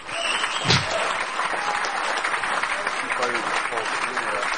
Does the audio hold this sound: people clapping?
yes